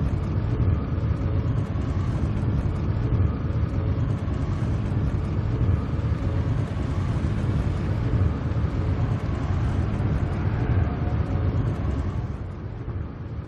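A car drives steadily along a road, its deep engine rumble and tyre noise loud and continuous from start to finish, as if heard from inside the vehicle, with no talking.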